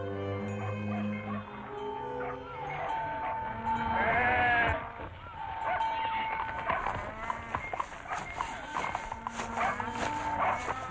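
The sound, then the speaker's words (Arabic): A flock of sheep bleating continuously, several wavering calls overlapping one another, with no talking over them. “ثم بعث رسول الله إلى راعي غنم يطلب منه أن يزوده بشيء من اللبن.”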